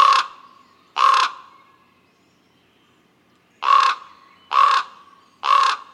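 Common raven calls: five harsh, croaking caws with no talking, two in quick succession, then a pause before a steady run of three more, each loud and rough-edged.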